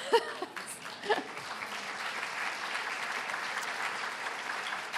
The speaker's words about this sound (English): he'd be so excited to know you're all clapping for him.